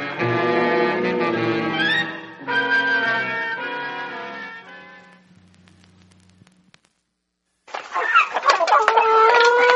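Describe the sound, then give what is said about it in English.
Chickens cluck and squawk loudly in a busy burst, fade to a near-silent pause with a low hum, then another flurry of excited clucking resumes. “But if you have something called electrophobia, the somewhat pleasant sound of clucking chickens may send you into a flap.”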